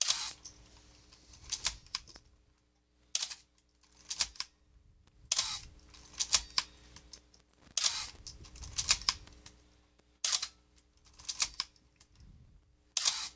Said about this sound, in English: So, a quick little squirt of oil into the camera. I'm going to let it sit for a sec. Let's cock it. And fire the shutter. And it's still there.